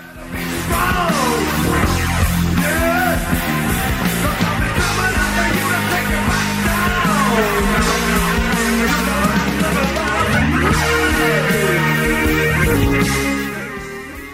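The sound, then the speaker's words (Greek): A large crowd on a protest march shouts and chants slogans together in a dense, continuous roar of overlapping voices, loud, sustained for several seconds before fading out at the end; the march, part of a nationwide pensioners' mobilization in Greece on 1 October, ended at the Maximos Mansion. “Ακολούθησε δυναμική πορεία φωνάζοντας συνθήματα, η οποία κατέληξε στο Μέγαρο Μαξίμου.”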